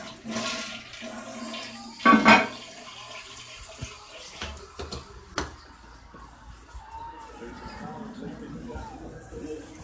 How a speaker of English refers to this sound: Sorry about that, folks. I had to flush the toilet. Then I had to put water in.